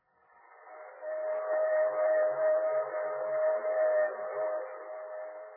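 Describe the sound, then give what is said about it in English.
A Union Pacific train rolls along the rails with a steady, continuous rumbling hum and a sustained whistle-like tone running through it, even for several seconds, with no voices. “And even though we were on the train, Jack was determined to give us a reason.”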